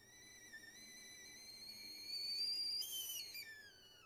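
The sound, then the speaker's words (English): A kettle on a stove whistles on its own as it boils, a shrill steady tone with layered overtones that climbs slightly in pitch and swells louder halfway through, turning harsher and screechier near the end. “She trailed off with a quiet laugh as the kettle started to screech, and she reached over to turn off the stove, moving it to another burner so she could prepare their cups.”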